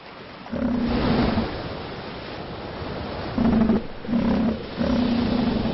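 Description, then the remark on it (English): Deep, throaty bellows of elephant seals on Macquarie Island, arriving in August to breed, erupt in several loud bursts over a constant roar of surf. The calls come in a broken rhythm with short gaps between them. “Macquarie will soon be heaving with 60,000 elephant seals, but they won't have the beaches to themselves.”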